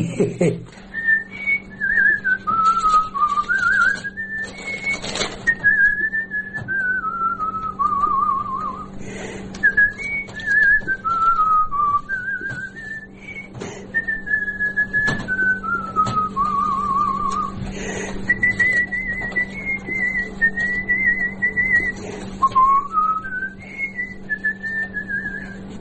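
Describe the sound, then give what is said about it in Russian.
An elderly man whistles a wandering melody, clear, the notes sliding up and down in long phrases over a steady low hum, with a few brief knocks in the background. “Все, хожу и все насвистываю что-нибудь.”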